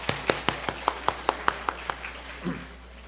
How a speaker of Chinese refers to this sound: 我们即用热烈的掌声，一方面多谢上帝，多谢他们诗班。